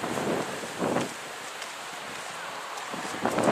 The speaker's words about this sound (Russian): И океан такой, знаете, волнуется. Волнуется. Ой, мама. Тут, я бы сказал, даже страшно.